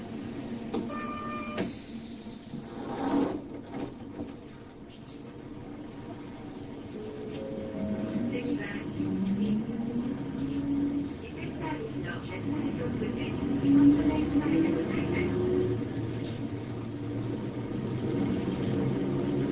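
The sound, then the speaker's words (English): Steady low engine rumble and road noise fill a moving bus on a ride through a hometown in Japan, with rattles, clicks and shifting mechanical hums rising and falling, and faint murmuring voices underneath. “So I'm going to begin by showing you a very personal look at my hometown, a bus ride.”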